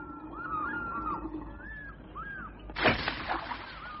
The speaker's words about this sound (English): What's that bird? The great fish eagle.